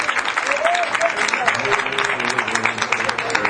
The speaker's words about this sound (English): hand clap of praise.